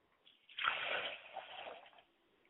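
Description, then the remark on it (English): Water pours steadily into a glass for about a second and a half, a gentle splashing stream with no voices, then trails off into quiet; the glass of water is poured as an offering for a mother's spirit. “I like to pour a glass of water for my mother's spirit, and I say, Ashe.”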